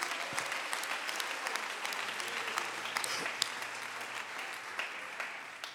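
A crowd claps steadily for the Lord, a dense and continuous patter of many hands with scattered sharper claps standing out, filling the whole stretch at a moderate, even level.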